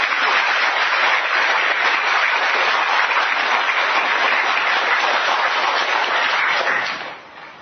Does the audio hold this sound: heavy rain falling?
no